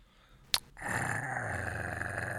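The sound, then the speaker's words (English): A short sharp snap, then a dog's low, rumbling growl starts up and holds steady and unbroken for nearly two seconds, with no voices, as the dog growls at a man who is kissing its owner. “Why is he growling at me?”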